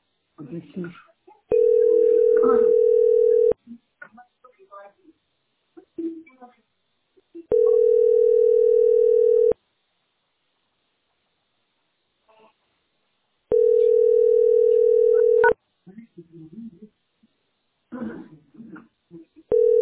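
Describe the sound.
A telephone busy signal sounds as three loud, steady two-second tones spaced several seconds apart, with people talking in the gaps between them.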